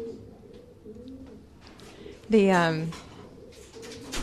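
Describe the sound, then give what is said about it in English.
Pigeons coo softly in the background of a loft holding 32 male and female birds, then one bird lets out a loud, throaty coo midway before the low murmuring resumes. “How many pigeons are in here? Well, we have 32.”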